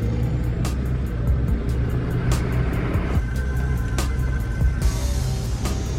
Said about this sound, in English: He turns a key in the ignition, and a needle climbs on the rev counter. Fumes issue from the exhaust as the truck rolls out of the depot, leading other security trucks in convoy.